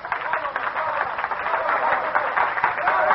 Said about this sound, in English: The applause, it is all for you, for your wonderful lullabies.